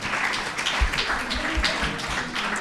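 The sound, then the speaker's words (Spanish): A small group applauds a participant who has just sung, with steady, dense clapping throughout. A few sharper claps stand out from the crackling wash of hands. “Un aplauso para”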